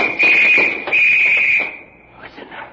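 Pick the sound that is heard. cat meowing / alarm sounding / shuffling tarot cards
alarm sounding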